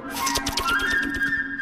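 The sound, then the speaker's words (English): A flute plays quick, fluttering high notes that climb upward, depicting a bird flying up into a tree, over a steady pulse of short rhythmic accompaniment. No one speaks. “Bird flying.”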